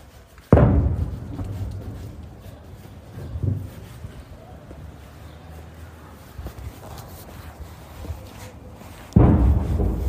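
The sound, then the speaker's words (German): Two heavy artillery booms from guns in Kherson, southern Ukraine, recorded in the last week of November, one near the start and another near the end, each a deep low thud with rumbling decay, echoing across an otherwise quiet urban background with faint noise in between. “Ihr hört den Donner von Geschützen.”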